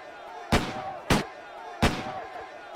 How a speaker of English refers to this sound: Those aren't firecrackers! They are gunshots